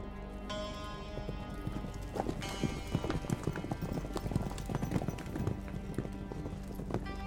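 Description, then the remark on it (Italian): Horses ridden by travellers gallop, their hooves clip-clopping in a dense, quick, continuous rhythm over a steady background hum, moderately loud throughout. “Filippo, Diana e Peter si spostano a cavallo, un mezzo di trasporto veloce ed economico.”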